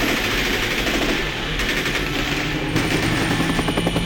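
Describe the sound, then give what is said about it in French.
A helicopter roars overhead, its rotor chopping in a steady, rapid thump over a loud mechanical whine, sustained and unbroken with no voices. “Oh, regardez, c'est l'hélicoptère de la Star.”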